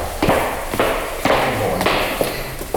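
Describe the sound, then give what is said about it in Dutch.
A door is swung shut to keep the warmth in, with snow lying outside, amid a series of dull thumps and knocks, spaced about half a second apart, over a steady background hiss with no clear talking. “Oh, even de deur dicht. Van de warmte mag niet weg.”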